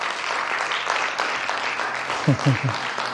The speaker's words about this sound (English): Give the Lord an applause for what he's doing in your life.